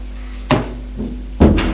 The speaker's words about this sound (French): Cinq minutes plus tard, elle entend les clés dans la serrure et la porte qui s'ouvre.